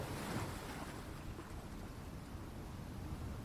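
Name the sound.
sea waves and wind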